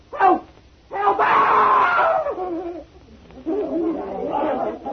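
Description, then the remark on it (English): A man screams in terror, two long, loud, strained cries separated by a brief pause and preceded by a short gasp, as a disembodied woman's hand with a knife tries to stab him. “What made you scream?”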